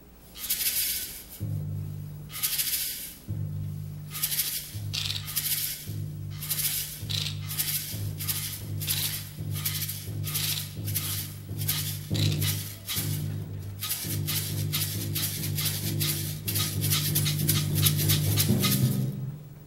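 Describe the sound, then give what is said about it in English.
Unusual percussion instruments, including a scraper, are played with the usual percussion in an orchestral piece by Villa-Lobos to imitate a little tired train straining to start uphill: rhythmic, hissing chuffs repeat over low sustained orchestral tones, growing quicker and denser toward the end. No one speaks. “Now, all these different noisy things played together with the usual percussion instruments can make a sound very much like a little tired train trying to get started up a hill.”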